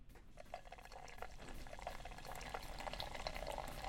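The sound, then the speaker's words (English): A steady pour of stout beer into a glass at a 45-degree angle, with continuous gurgling and fizzing that holds at an even level for a few seconds, no voices. “And let's do a little pour. 45 degrees.”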